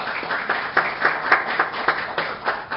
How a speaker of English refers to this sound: So how about a round of applause for our candidates?